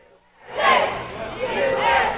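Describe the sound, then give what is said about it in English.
A large crowd at an airport, with banners and balloons, erupts into loud cheering and whooping after a brief quiet moment as two brothers return home from the Middle East; sustained excited shouts from many voices. “Banners, balloons, and a big crowd for two brothers home from the Middle East.”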